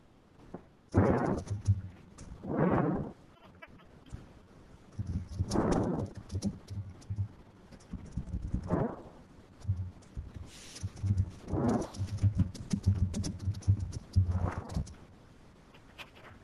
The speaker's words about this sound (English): Typing. I hear like a galloping. Somebody's typing and I hear that after galloping of horses. Somebody should use the headphones.